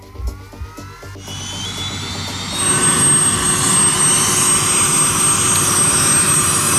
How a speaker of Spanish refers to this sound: se ponen de rodillas frente al helicóptero que arranca motores